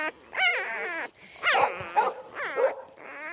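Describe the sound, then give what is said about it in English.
Several farm dogs bark and yelp in quick, uneven bursts, some barks rising into high-pitched whines, with no one talking over them. “Who's top dog here? Tink. Tink, yeah.”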